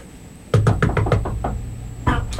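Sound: knocking on a door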